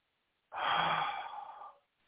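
A single long, deep exhale, airy and breathy, lasting just over a second, fairly loud before fading off into silence.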